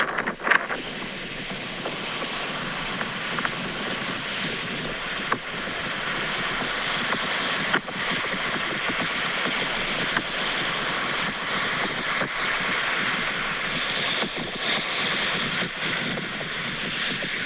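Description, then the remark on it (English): A steady, loud roar of high sea waves whipped by strong wind at a rocky shore while the moon is still up, a dense wash of noise with only faint surges and occasional gusts buffeting the microphone. “it's so windy, I don't know whether you're listening to the sea or the wind.”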